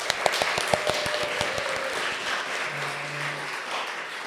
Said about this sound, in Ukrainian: Дякую, аудиторія, що ви були з нами. Оплески вам.